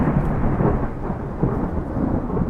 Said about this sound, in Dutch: Op dat moment doorkliefde een bliksemschicht de lucht boven de boerderij. Daarop volgde een krakende donderslag die de boerderij op haar grondvesten deed trillen.